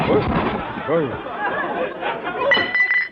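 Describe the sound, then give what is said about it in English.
Murmuring voices fill the background, then a sudden crash breaks in near the end as a person is accidentally knocked over on a slippery floor, followed by a brief ringing clink as something topples over. “Gosh, you accidentally knocked over old”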